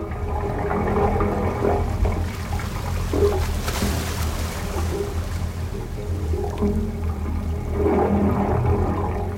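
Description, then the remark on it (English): Seawater gurgles and sloshes through the submerged pipes of a wave organ on San Francisco Bay, pipes up to 15 feet long that vent through stone, a continuous low, hollow rumble with surging swells rising and falling as water rushes in and out, fairly loud, with no voices. “The sounds are produced by the swell of water rushing in and out of the pipes, vibrating and resonating”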